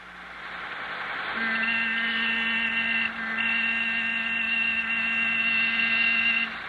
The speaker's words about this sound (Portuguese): Ah, lá vem um caminhão.